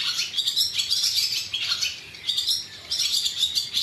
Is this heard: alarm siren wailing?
no